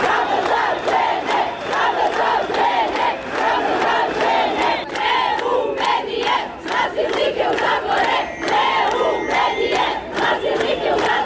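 A crowd of women protesters in Belgrade chants loudly and steadily in unison outside a tabloid that published an interview with a repeatedly convicted rapist, their voices rising and falling in a rhythmic pattern punctuated by regular sharp beats, with no single voice standing out.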